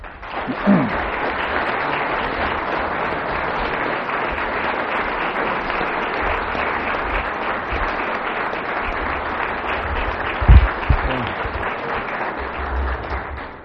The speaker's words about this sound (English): We thank our five panelists for the varied and very interesting responses they've given to the question about why they stay. And why don't we give them another hand of applause?